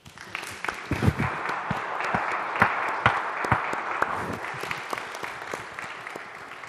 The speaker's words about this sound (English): Very good. Unanimous. I think it's time for applause.